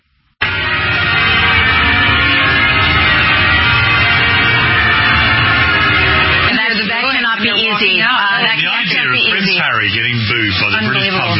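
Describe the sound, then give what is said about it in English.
A loud crowd boos over scattered clapping in a dense, steady roar for several seconds, then a voice begins talking as the crowd noise continues underneath. “But the commentary afterwards definitely tells you that when you're there, you hear the boos over the so-called claps.”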